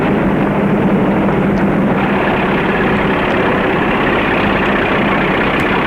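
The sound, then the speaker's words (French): A steady, loud car engine rumbles continuously as the car drives into a property in an oasis, a low idling drone with faint higher hiss, with no voices and no break in the sound. “La voiture rentre dans la propriété.”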